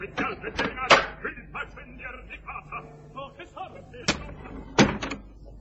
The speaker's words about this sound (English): Come on, open the box door, darling.